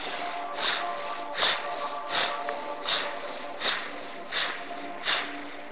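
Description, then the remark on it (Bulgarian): Forceful bhastrika bellows breathing: seven sharp, breathy whooshes in a steady, quick rhythm, each a strong gust of air through the nose, with no talking. “ако искаш, може да бъде по-рязко, като типичното бастрика дишане.”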